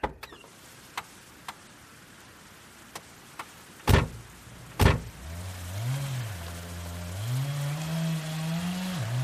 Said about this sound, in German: Das ist Herr Mertens mit der Kettensäge. Er sägt einen Baum für Herrn Richter ab.